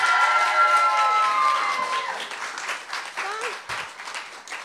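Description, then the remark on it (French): An audience at an evening event breaks into sustained applause for the event's organiser, with a few whoops and cheers rising above the dense clapping, which stays loud before tapering slightly toward the end. “Est-ce qu'on peut l'applaudir encore?”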